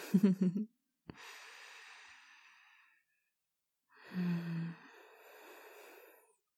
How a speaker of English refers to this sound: Just feel me nice and close. Listen to me. Listen to my voice. My breathing.